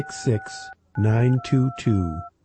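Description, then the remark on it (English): Several telephone keypad tones beep in short bursts, each a steady dual-pitched electronic tone, overlapping with a voice that sounds alongside them. “Order online or order by phone.”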